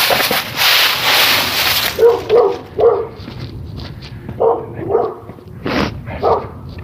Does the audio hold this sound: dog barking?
yes